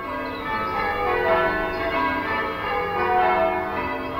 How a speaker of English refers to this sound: The oldest bells, we're not quite certain how old they are, but they're certainly mid-15th century. So when we're ringing on a Tuesday night for practice, we're handing bells that were cast over 450 years ago. It's quite a thought, really.